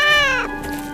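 cat meowing

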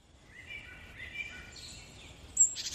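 birds chirping

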